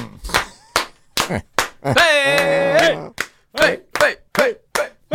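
About a dozen sharp, uneven hand claps from people clapping, with a loud drawn-out vocal shout rising over them partway through before the clapping continues.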